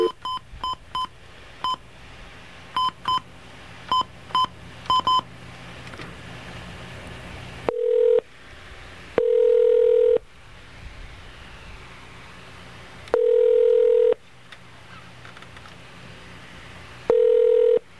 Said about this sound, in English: Actually, you know, I was meaning to do this. Let me do it now. All right. Okay, we get our dial tone? Good.